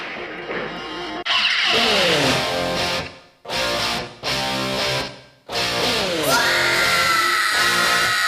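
A female vocalist lets out a loud, soaring scream over distorted rock guitars and pounding drums, the held cry rising sharply in pitch amid the dense, full-volume band.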